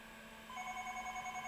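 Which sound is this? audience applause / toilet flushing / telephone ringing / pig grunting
telephone ringing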